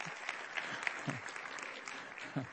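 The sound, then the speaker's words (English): An audience applauds steadily, a dense wash of many hands clapping at a fairly even level, with a few brief low voices or cheers poking through the noise. “You should clap for them too.”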